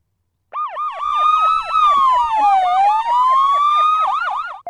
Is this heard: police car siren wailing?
yes